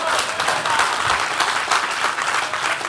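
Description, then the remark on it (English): A crowd applauds steadily, many hands clapping together for the Lord in a dense, sustained wash of claps that stays loud throughout, with no talking heard. “Get the Lord a real hand clap right there.”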